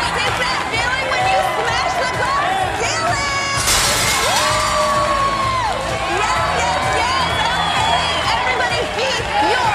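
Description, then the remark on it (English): A sudden crash of smashing glass bursts out about a third of the way in, set against a loud, continuous crowd of cheering and shouting voices that carries on afterward. “After Justine smashes the glass ceiling, her right fist changes to a flat hand, fingers together, sweeping through the air.”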